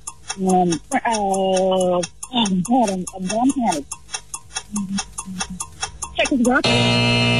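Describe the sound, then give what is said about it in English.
A 10-second countdown clock in a quiz game ticks in a steady, rapid rhythm beneath a speaking voice as a player names five countries in Europe, then a harsh, sustained buzzer cuts in for the final second. “10 seconds on the clock.”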